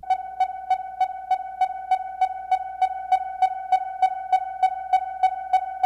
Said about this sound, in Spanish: Este sistema de señales de eco se llama ecolocalización o biosonar, porque es como un sonar, o sea, un radar, pero biológico.